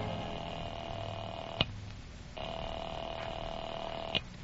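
household object, telephone being dialed

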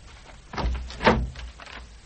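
household object, front door being opened

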